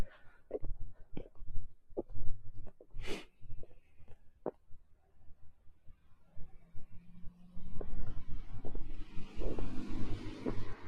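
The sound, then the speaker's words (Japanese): A car with snow chains rolls past, a low engine rumble under sharp, irregular clanking and crunching bursts that give way to a steadier rising road noise as it goes by. “すごいチェーンをつけた車が通ってってます。”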